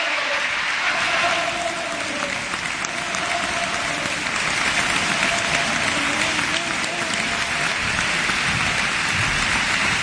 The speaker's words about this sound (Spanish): Atronador aplauso en el Gran Teatro Falla.